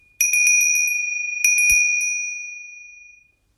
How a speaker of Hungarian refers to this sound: Tudjátok, nekem is nagyon kedves a csengő, hisz egész advent alatt arra várok, hogy karácsony este megszólaljon. Most, hogy alkalmam adódik, meg is mutatnám, hogy az én csengőm hogyan szól. Figyeljetek!